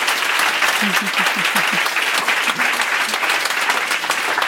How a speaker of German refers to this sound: Erstmal euer Applaus.